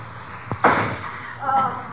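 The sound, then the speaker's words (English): A firecracker is set off against a suitcase lock in a house to try to blast the lock open: a quick sharp crack followed by a louder bang with a short rattling decay, then a brief murmur of voice. “Gee, what are you doing shooting firecrackers off in this house? Trying to blast the lock open on the suitcase.”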